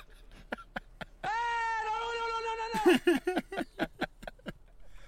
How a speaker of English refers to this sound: That fucking cat sketches me out. Ma, there's a weird stray cat outside. It looks it looks like grandma, the thing.